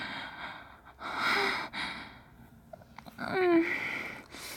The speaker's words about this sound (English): breathing heavily and quivering.